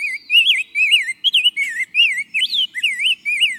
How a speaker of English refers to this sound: The breeding season is well past, and our summer birds visiting from the tropics have fled south, like this sweet-voiced rose-breasted grosbeak.